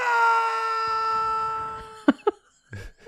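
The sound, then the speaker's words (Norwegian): A loud, drawn-out stock film scream, one used in many hundreds of films, holds steady for about two seconds, then cuts off into a few short vocal bursts and brief talk. “Det er et scream som har blitt brukt i mange hundrevis av filmer.”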